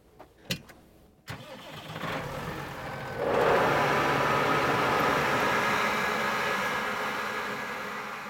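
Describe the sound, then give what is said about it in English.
A couple of sharp clicks, then a tractor engine turns over and catches, swelling into a loud, steady rumbling drone that holds to the end with no one talking. “Well, the moment has come then to hop up on the tractor and give it a go.”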